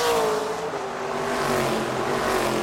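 A race car engine roars loudly past, its droning pitch sliding slightly lower as it goes by, with no voices.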